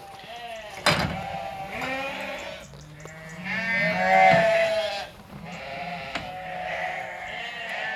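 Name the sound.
sheep bleating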